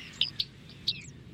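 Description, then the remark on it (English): Bearded reedling calls: a few short, bright pinging notes in quick succession, with fainter ones between, over a low steady rumble of background noise. “there are now more than 600 breeding pairs of bearded reedlings in the UK today.”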